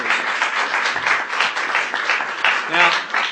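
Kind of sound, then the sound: crowd, audience applause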